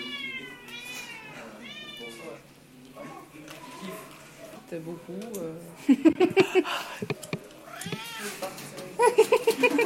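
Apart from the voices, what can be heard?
cat meowing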